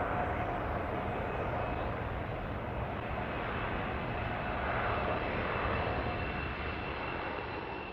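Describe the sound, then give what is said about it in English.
A steady, loud jet engine roar fills the whole stretch, a broad whooshing drone with a faint high whine, holding level as a private jet banks over a small Caribbean island in hot sun, circling back on final approach to an airstrip. “A private jet banked lazily over a small island that rudely broke the endless turquoise of the Caribbean Sea.”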